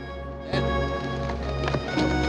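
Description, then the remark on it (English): A horse's hooves thud in a slow, uneven walking rhythm as Jeb leads his horse on foot at gunpoint to a spot where several men are camped, over a steady humming background with no one speaking. “Leading his horse, Jeb's walked at gunpoint to a spot where several men are camped.”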